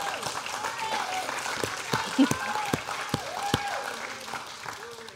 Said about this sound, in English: go ahead, clap, that's amazing.